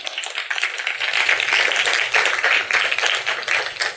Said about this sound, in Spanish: ¡Dense un aplauso!